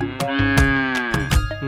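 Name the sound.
cow mooing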